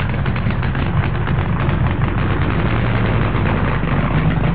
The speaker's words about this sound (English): And it's particularly important in drag racing to actually warm the engine before you do a run in it. And that is what's happening at the moment. Let's just give you one more blast of the noise now. It's quite incredible.